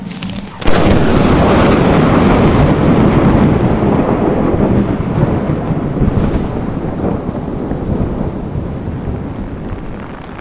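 Heavy rain pours down steadily after a sudden start, a loud, dense roar with deep thunder-like rumbling beneath it that slowly eases toward the end. The rain interrupted a concert and cancelled further performances on the main stage. No one speaks.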